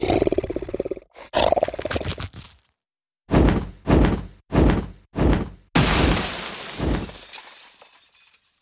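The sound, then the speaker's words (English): A deep roar rises, then four heavy crashing impacts in quick succession, followed by a loud burst of shattering glass that tinkles and scatters as it fades away, as someone smashes up through a glass ceiling. “No, I'm going to smash through the ceiling.”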